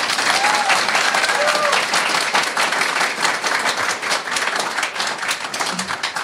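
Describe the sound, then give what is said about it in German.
A crowd applauds the network operations team for installing the internet, dense overlapping claps at a loud, even level, with a few faint whistles and cheers mixed in. “Dafür vielleicht mal einen Applaus an das Nock, bitte.”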